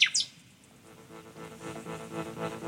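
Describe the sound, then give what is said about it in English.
A nightingale gives a couple of sharp, high, piercing notes at the start, followed by quieter sustained tones as a low, warm melodic line swells underneath. “I'm a nature conservationist, writer, and singer with nightingales.”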